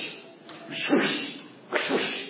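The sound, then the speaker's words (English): A person imitates the sound of women in India beating laundry on big stones in the early morning: two sharp, swishing slaps about a second apart, fairly loud, with no talking. “And so if you've ever been to India, I would wake up at like 4:30 in the morning, I'd hear the roosters, and then I would always hear this slapping sound.”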